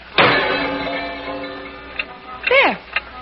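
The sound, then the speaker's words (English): An old clock called Big Ben, which had stopped and is being fixed, starts up with a sharp ringing tone that slowly fades, followed by a few soft, sparse ticks and a brief sliding whine near the end. “Sheer sentimentality, an old clock.”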